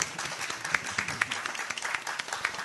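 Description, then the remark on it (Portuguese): An audience applauds with a dense, steady patter of many hands clapping, a few sharper claps popping out of the wash, sustained at moderate loudness for a few seconds. “Uma salva de palmas.”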